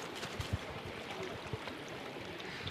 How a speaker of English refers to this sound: Now we are back near the Klondike Corner car park and campsite, and we're beside the last river the group have to cross today. The young participants are going through in groups of two with their arms locked together because the current's quite swift